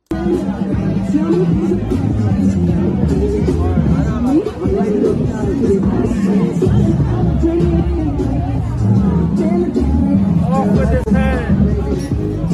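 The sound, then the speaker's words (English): A dense, loud crowd of many voices shouts and clamors together at a riot, a steady roar of overlapping yells and chatter that never lets up; the crowd shouts "Off with his head" while standing in front of a guillotine holding an effigy of President Trump. “It's from the riots last night.”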